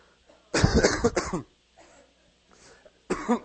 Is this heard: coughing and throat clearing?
yes